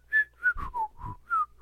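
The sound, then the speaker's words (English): A person whistles a short, wavering tune of about six quick notes, clear, with faint breathy noise between them and no talking. “… whistles. Yeah, go ahead, …. Just keep whistling.”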